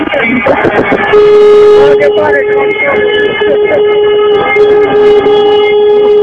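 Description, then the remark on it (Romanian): A chorus of taxi horns blares continuously from about 100 taxis gathered at a taxi station in Brașov, several overlapping steady honks layered together, loud, with voices chattering underneath. “Hai să-i auzim pe colegi cum claxonează în spirit de”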